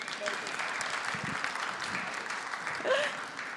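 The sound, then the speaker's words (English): An audience claps steadily in a dense, even wash of applause, with a brief vocal whoop or cheer rising near the end. “Okay, you can clap hands for them because.”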